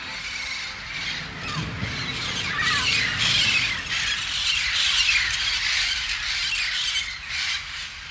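A bird squawks repeatedly in loud, harsh bursts, continuous for several seconds, with shrill chirps layered over the noisy calls. No one speaks.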